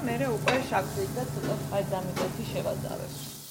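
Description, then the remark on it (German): Red onion rings sizzle steadily in a pan as they are caramelized, while a utensil scrapes and stirs them in repeated short strokes, with a voice talking underneath the frying. “Wenn sie fertig gebraten sind, fügen wir etwas Salz, Zucker und Balsamico-Essig hinzu.”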